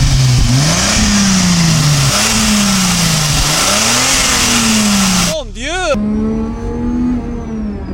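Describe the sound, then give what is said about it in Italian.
The turbocharged 2.5-litre 90-degree Peugeot-Renault-Volvo V6 of an Alpine sports car, 200 hp with a Garrett T3 turbo, revs loudly in repeated rising and falling surges, then settles into a steadier climbing drone, with a short exclaimed voice partway through. “Carrozzeria in vetro resina su telaio tubolare centrale e dietro un Peugeot Renault Volvo. 2,5 a 90 gradi, 200 cavalli e turbina Garrett T3.”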